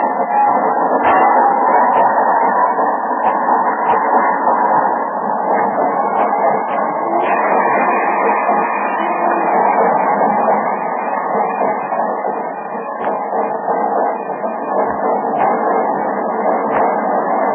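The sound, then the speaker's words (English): A train pulls into a station, rumbling in steadily and loudly, a dense continuous roar broken by scattered clicks and clanks from the wheels and cars, with no voices over it. “Are you expecting him on this train?”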